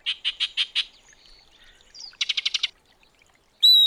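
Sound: yellow-breasted chat song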